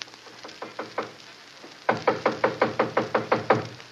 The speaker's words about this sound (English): It gave me a strange feeling as I raised my hand to knock on what once had been my own living room door.